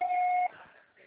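A single steady electronic beep, a voicemail recording tone, holds one even mid-high pitch for about half a second, then cuts off abruptly into faint line hiss.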